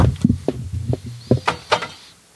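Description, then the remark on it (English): A beer fridge door being opened: a run of low thuds and clunks, then three sharper clicks and a soft rush of air as the seal lets go. No voices. “He's opening it. Hey, wait a minute. That's an unsanctioned opening.”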